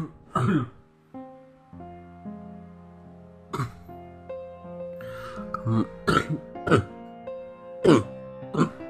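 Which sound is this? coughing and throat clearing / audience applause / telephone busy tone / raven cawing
coughing and throat clearing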